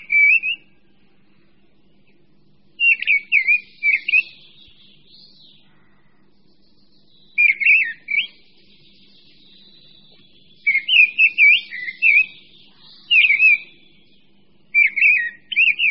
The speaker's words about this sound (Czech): Posloucháme zpěv Drozda Brávníka, největšího z našich drozdovitých ptáků. Je o něco větší než kos, zbarvením nám však více připomíná známého Drozda Zpěvného. S jeho zpěvem se můžeme setkat již v polovině února a především potom v březnových dnech.